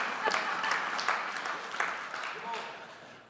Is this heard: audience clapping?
yes